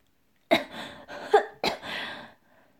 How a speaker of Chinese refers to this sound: 小宝宝咳嗽了两声，苦笑道